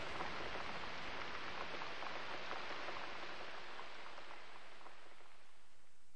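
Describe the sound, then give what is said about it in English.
Steady rain pattering against window panes, a dense, continuous hiss of tiny droplet taps at an even level throughout, with no voices. “The wind was still moaning about the eaves, the rain still pattering on the panes.”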